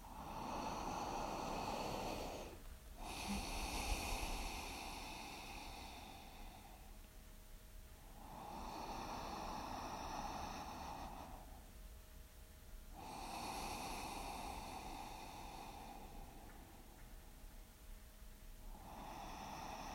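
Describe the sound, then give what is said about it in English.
Three slow, deep breaths drawn in and pushed out in a steady rhythm, fairly loud with short pauses between them; no one speaks. “So when you are ready, allow yourself to align your spine and take three deep breaths.”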